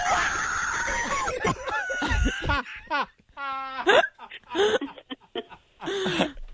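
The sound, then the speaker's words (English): A man, actor Peter Boyle in a scene from the film Young Frankenstein, screams and yelps in loud, strained bursts, his voice breaking and rising in pitch, with short gaps between the cries and some overlapping vocal noise. “We'll have to take the two sounds and put them next to combine the scream.”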